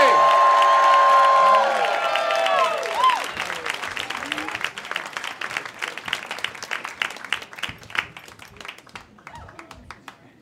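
An audience at a live Moth storytelling show bursts into cheers and whoops over loud applause for the first storyteller of the night, then the cheering drops away and steady hand clapping continues, gradually thinning and fading toward the end.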